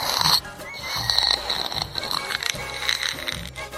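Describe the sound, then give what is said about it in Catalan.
Loud bursts of a child's hard, raspy breathing, wheezy and grunting almost like snorts, repeating in quick uneven pulses with no words spoken. “Respires fort, eh?”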